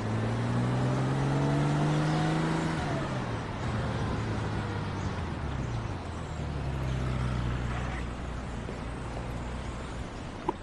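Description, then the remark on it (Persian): A car engine revs up and drives off, its pitch climbing through gear shifts before settling into a steady rumble as it moves along; loud, with no talking. “داداش تو ماشینم دارم میام.”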